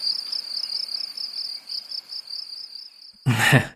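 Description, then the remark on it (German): A steady, high-pitched cricket-chirping sound effect pulses continuously for about three seconds, then cuts off abruptly as a louder burst of voice begins at the end. “Hier Grillenzuppen einfügen.”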